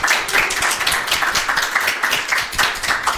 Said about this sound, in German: Ah, jetzt ist Applaus. Ja. Jetzt können wir so Applaus einspielen, wie so ein amerikanischer.